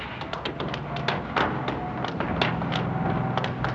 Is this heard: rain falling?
no